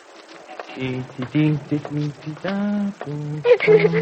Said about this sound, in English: I was just humming. Why? Well, because I think good when I hum.